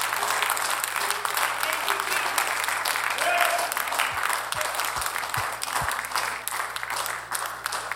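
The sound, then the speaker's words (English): A large crowd claps hands in sustained, dense applause, a steady wash of overlapping claps with murmured voices beneath and a few low thumps near the end. “Why don't you clap your hands this morning?”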